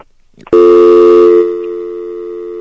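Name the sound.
telephone dial tone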